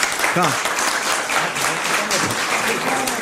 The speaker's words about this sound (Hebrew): בוא, תקבל פרס. בוא. תמחאו לו כפיים, נו.